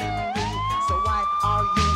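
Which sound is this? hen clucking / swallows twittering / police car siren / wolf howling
police car siren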